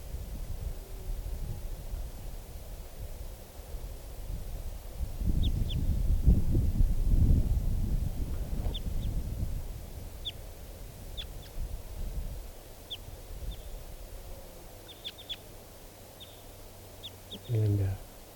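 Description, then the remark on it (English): A wild bird, a type 2 bird sitting on the top of a tree, gives a series of short, high-pitched chirps at irregular intervals, fairly faint, over a steady low rumble of wind-like noise. “It's recording 11:33 now, and I've walked over to where the wild bird, the type 2 bird, is sitting on the top of a tree.”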